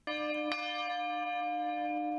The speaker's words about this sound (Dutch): Opeens hoorde ik een klok het Angelus luiden. "Dat zal Mariazell zijn," zei ik gelukkig.